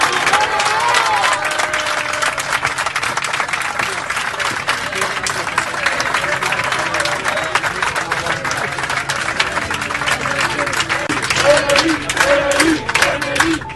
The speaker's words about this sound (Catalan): És cert, quan ha pujat Emery, l'ovació ha sigut increïble. Tot l'avió, el podeu escoltar ara, aplaudia així al tècnic baix del Villarreal.